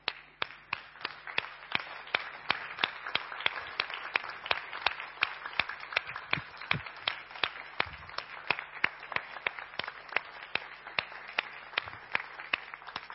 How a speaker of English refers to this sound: but we've got a number of foster carers in the church this morning even, and I think we should just stand and just applaud them. Should we just want to thank you?